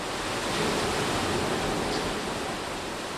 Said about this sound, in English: See how that water flows right into this opening? I'm standing where those problems begin